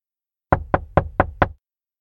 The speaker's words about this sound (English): Suddenly, there's a knock on the door.